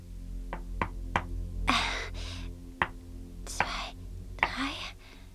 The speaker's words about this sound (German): Wir müssen sie warnen. Mit Klopfzeichen. Okay, klopf du am besten SOS. Drei kurz, drei lang, drei kurz.